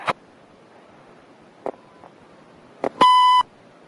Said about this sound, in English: Hello, I K Can't come to the phone right now. Please leave your name, telephone number, and a short message after the beep.